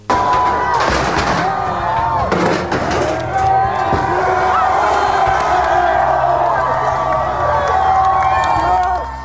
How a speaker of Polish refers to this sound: Protestujący przeciwko rasizmowi w brytyjskim mieście Bristol wiwatowali, gdy obalili brązową statuę 17-wiecznego handlarza niewolników Edwarda Colstona i zrzucili ją do rzeki Avon.